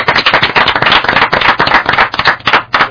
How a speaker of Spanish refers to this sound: Oye, este aplauso que te vamos a pegar es para ti, ¿vale?